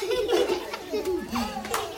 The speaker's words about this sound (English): The village livens up with the distant sounds of cows and the occasional laughter of children playing.